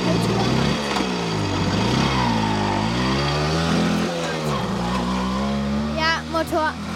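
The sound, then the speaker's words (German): A voice imitates a motorcycle taking a sharp corner: a continuous buzzing engine drone whose pitch dips and rises as if leaning through the curve, loud, with a brief higher revving flourish near the end. “Motorrad, das scharf um die Kurve geht.”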